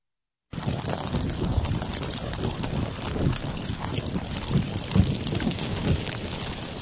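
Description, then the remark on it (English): Hot oil sizzles steadily with a dense, crackling hiss and scattered pops, starting abruptly and holding at an even, fairly loud level throughout, with no voices. “That was hot oil.”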